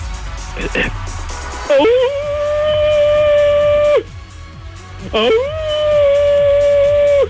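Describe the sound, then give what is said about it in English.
A person imitates a wolf howl twice to warm up the voice for singing, each a loud, drawn-out vocal note that swoops upward and then holds steady for about two seconds, with a short pause between. “Well, because I warm up like the wolves do. They have powerful voices.”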